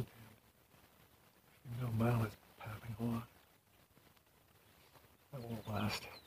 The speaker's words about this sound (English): Mosquito swamp. That was a duck in it.